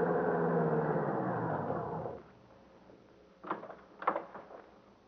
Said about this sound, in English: A big, shiny limousine drove up.